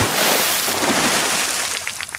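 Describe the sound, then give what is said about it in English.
A splashing water sound effect that Fox Sports plays when the Dolphins score a try: a loud, rushing splash surges for about two seconds, a dense watery wash that tapers into a few short, choppy splashes at the end. No voices. “Like a splashing sound, I guess, the Dolphins.”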